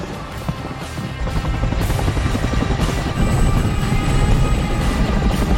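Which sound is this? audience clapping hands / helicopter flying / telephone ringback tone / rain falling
helicopter flying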